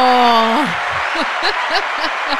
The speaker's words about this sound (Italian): Mettiamo l'applauso? Mettiamo l'applauso, aspetta che ce l'abbiamo l'applauso. Eccolo!